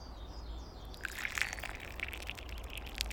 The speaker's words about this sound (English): "Hello, friends. Come, sit. Have some mint tea with me." Felipe and Grandpa sat down, and Helios poured them a drink.